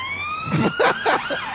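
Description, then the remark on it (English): A Lamborghini police car siren wails, its thin whistle-like tone gliding slowly upward, with a few louder bursts of noise layered over it. No one speaks. “Look at the Lambo police car, bro.”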